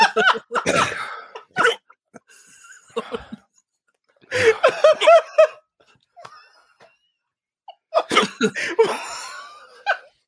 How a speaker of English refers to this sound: It's just the sound of hiccups.